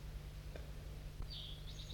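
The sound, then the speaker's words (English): A crossbill perched in a tree calls back and forth with another crossbill, in the second half a thin, high, slightly wavering note lasting under a second, over a steady low hum, with a couple of faint clicks earlier on. “I thought I heard another crossbill perched in the tree above, looking down because I...”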